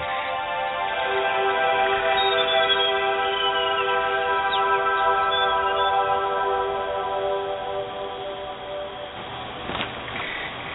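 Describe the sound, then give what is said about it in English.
Birds call high in a rainforest canopy, a dense layered chorus of sustained tones with occasional sliding whistles, continuous and moderately loud throughout, with no voices. “High up in the trees, we can find birds living among the branches of the canopy.”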